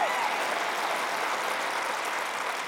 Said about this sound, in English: Hey, was somebody in the house, if God saved you and you do not deserve to be in this place, but you're thankful for God's grace, would you lift up the biggest shout of praise and hand clap that you could give for the God of all creation? Amen. Amen.